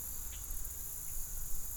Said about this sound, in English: Just lots of frogs. lots of frogs sing reep and the occasional harunt.